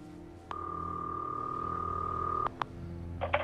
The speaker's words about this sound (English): A bugging device starts ringing.